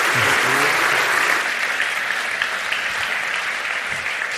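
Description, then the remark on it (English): Steady audience applause for a speaker after his talk, a dense wash of many hands clapping at an even, fairly loud level for several seconds, with a faint voice or two briefly under it at the start. “Give him a wee round of applause.”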